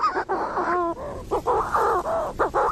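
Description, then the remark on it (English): Manx shearwater calls at dusk: a continuous run of eerie, warbling cries with rising and falling wails and short gulping breaks, several birds overlapping, no talking. “but then as the sun starts to go down and the stars start to come out, the Manx shearwaters start to sing, and that, if you've ever heard that bird, it is like... It's kind of like a warbling turkey kind of cry.”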